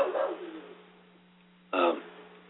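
A dog barks twice, a longer, fading bark followed after a pause by a short, sharper one, both fairly faint with nobody talking over them.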